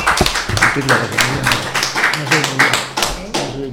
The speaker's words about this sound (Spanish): Muy bien, pues otro aplauso para vuestro compañero. Muy bien.